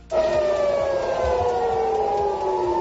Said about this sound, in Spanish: El lanzamiento del misil ha hecho que se escucharan las sirenas antiaéreas en Tel Aviv.